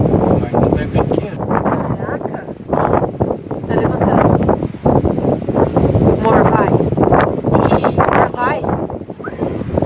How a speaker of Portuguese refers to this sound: Viu que vento frio? Oh, barulhão.